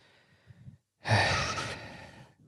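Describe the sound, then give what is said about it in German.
A loud, deliberate breath rushes out, long and forceful, with softer breathing just before and after it, part of three deliberate breaths taken in a row. No one speaks. “Dreimal schnaufen.”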